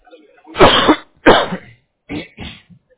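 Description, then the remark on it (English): A harsh coughing fit: two heavy, rasping coughs followed by two shorter, quicker ones, with brief gaps of silence between them. “I'm sorry, hold on, I'm having that coughing fit.”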